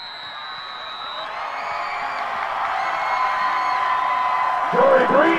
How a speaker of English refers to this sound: It's homecoming night, and the Spartans are going to win, beating the Skyview Falcons 35-17. But they don't know that yet. So the cheerleaders keep cheering, and the crowd keeps yelling.